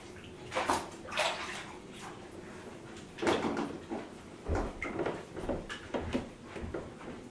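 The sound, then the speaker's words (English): A child washes a dusty toy in bubbly water: water sloshes and splashes in irregular bursts as the toy is scrubbed and swished around in a tub, with soft clunks between the splashes. “What are you washing? This. Why? Because it's got dust on it.”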